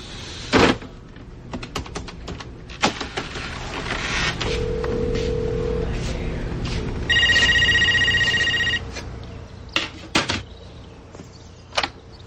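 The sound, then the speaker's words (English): A telephone being dialed: sharp clicks of buttons or a handset, a steady low tone, then a bright, buzzy ringing burst lasting about two seconds, followed by a few more clicks. “Could I use your guys' phone for a sec?”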